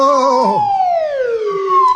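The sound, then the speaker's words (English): A swanee slide whistle is played in the dark, one loud, continuous tone that glides slowly downward in pitch and then sweeps back up again, with no voices. “Playing that swanny whistle gave your position away.”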